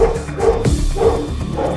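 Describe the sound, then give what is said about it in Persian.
A dog barks repeatedly and insistently, a few sharp woofs with short gaps between them, heard over a busy, noisy background. “لعنتی سگه تو آروم کن.”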